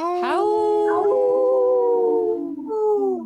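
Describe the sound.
A person imitates a wolf howl for a Howling for Wolves radio message: one loud long voiced wail that swoops upward, holds and slowly sags, breaking briefly before a final falling note, with no other sounds.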